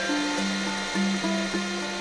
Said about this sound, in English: A teaspoon in my cup, and vacuum in the rug.